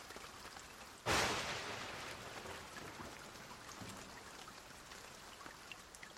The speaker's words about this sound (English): What is the weather like today? It is raining.